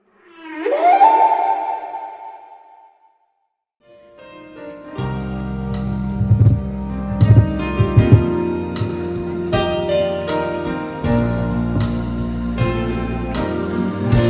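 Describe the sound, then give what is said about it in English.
A person imitates whale song, crooning a drawn-out, rising and wavering call for about three seconds, fading out before a band kicks in with full, steady music. “I'm learning a little whale now.”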